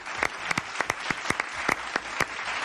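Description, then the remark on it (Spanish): A small group clapping, with sharp individual claps standing out over a steady patter of hands. The applause is lively and continues throughout without any talking. “Un aplauso con mucha gana, pero bueno.”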